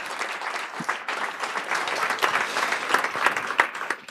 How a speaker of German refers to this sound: Danke euch, Admin.io. Großer Applaus für euch nochmal.